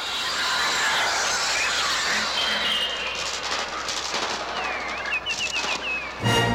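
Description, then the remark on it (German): A dense, harsh wash of electronic bird cries played on a Trautonium, one of the first electronic musical instruments, designed by composer Oskar Sala; shrill and continuous, with short piercing chirps swooping through near the end before a sudden low thud; loud, with no voices. “Da die Originalstimmen der Vögel zu harmlos klangen, benutzte man eines der ersten elektronischen Musikinstrumente, das Trautonium.”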